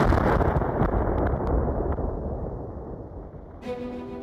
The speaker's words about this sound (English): Then the spacecraft began to rise, raising 4 feet off the launch pad and into the air. Before crashing to the ground and erupting. into a fiery explosion.